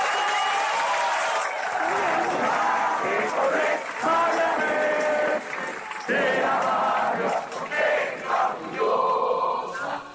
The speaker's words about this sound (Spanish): Sin la presión de ustedes aquí afuera, sin los aplausos que ustedes hicieron mientras estamos discutiendo, sin los gritos que ustedes dieron mientras nosotros estamos discutiendo, nosotros no hubiéramos podido llegar a estos acuerdos.